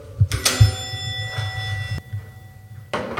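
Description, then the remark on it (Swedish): A doorbell, rung by reporters standing in an apartment stairwell, rings once with a bright, sustained chime tone that hangs steadily for about two seconds over a low background rumble, then a brief noisy burst follows at the end. “Vi ringer på dörren.”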